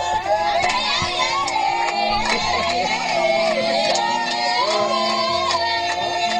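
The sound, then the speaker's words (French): A crowd of villagers in a small village in Africa sings a lively festive song together to celebrate a birth, many voices blending in a steady, loud chorus, with sharp rhythmic hits like clapping or drumming running through it. “Quelques heures plus tard, quand les pleurs tant attendus se firent entendre, les villageois entonnèrent un chant de fête pour célébrer la naissance.”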